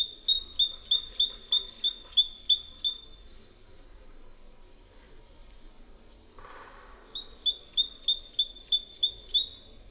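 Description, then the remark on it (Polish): A great tit sings the two-syllable version of its song, a bright, rhythmic run of paired whistled notes repeated about ten times, then a pause before another identical series. Clear, with no talking. “Głos ten może być także wydawany w wersji dwusylabowej.”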